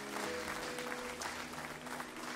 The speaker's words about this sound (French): Est-ce qu'on peut célébrer Jésus et l'applaudir dans ce lieu ? Celui qui bâtit son Église.